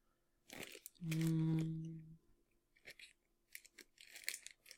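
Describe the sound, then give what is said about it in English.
Crisp crunching of someone chewing regular fried peanuts, coming in irregular bursts, with a brief low humming 'mm' sound partway through. “I'm going to let you go ahead and finish chewing those or whatever.”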